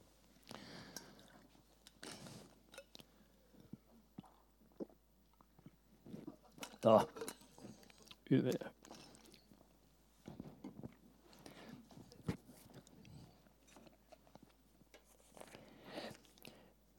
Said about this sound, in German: Ich muss kurz einen Schluck Wasser nehmen.